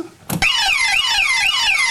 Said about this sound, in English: And it comes fitted with a burglar alarm too? A burglar alarm?